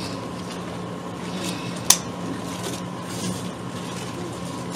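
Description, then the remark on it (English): Soft, scattered rustles of paper pages turning over a steady electrical hum, with one brief, sharper flick partway through and no one talking. “I love the sound of whispering paper.”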